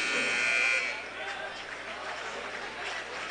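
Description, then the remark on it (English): A loud, harsh basketball arena buzzer blares for under a second as player Riley Francis fouls out of the game with five fouls at the 3:14 mark, then cuts off and leaves a steady murmur of crowd noise and indistinct voices. “It appears that he will foul out of the ballgame, and they will blow the buzzer, and Riley Francis will check out of the basketball game with five fouls at the 3:14 mark of this contest.”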